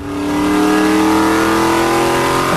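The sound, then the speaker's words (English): A loud race car engine revs steadily and climbs in pitch as the car accelerates on a track with no other cars, the driver unable to get into second gear, a continuous sustained roar with strong harmonic whine and no speech. “Can't get into second gear. Driving the car.”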